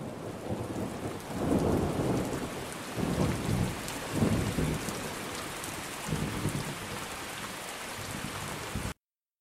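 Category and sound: nature, rain falling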